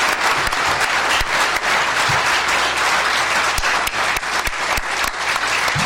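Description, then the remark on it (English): Loud, sustained applause from a crowd of staff giving the speaker a standing ovation, a dense wash of many hands clapping steadily for several seconds with sharper individual claps popping out. “Those are all my staff that are giving me the standing ovation, so...”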